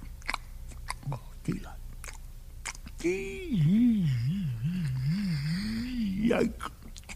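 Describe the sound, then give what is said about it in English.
Several short, wet smacking chews, then a long, wavering closed-mouth hum that rises and falls as the chewing goes on, as someone chews a bite of a sticky peanut butter sandwich with delight. “And then, one day, he took a bite and started chewing with delight.”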